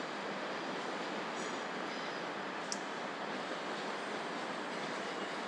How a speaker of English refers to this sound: So fingers crossed my train should be coming in fairly shortly.